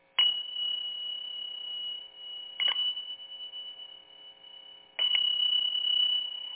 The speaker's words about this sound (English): Or some people like working with some kind of chime or bell, and I have what I call my dragon zills.